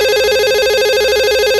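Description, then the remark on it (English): A hotel room telephone rings with a steady, rapidly warbling electronic trill, loud and sustained without a break, with no voices over it. “Kim answers the phone.”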